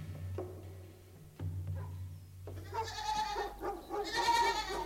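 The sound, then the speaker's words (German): A goat bleats several times, its wavering calls growing louder and harsher toward the end, with no one speaking. “Haben Sie sich neulich schon meine Ziege Clementine angesehen?”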